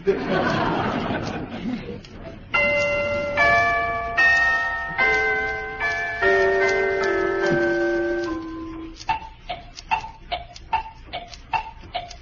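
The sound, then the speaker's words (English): After a burst of busy sound and a run of chiming bell-like notes, Chinese woodblocks tap out a steady, evenly spaced, crisp tick-tock like a clock, in a stage act played alongside piano, celesta and toy bells. “will play the piano, the celesta, the toy bells, and the Chinese woodblocks.”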